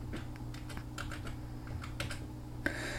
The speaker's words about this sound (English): Let's see if our controls work. I'm going to press insert.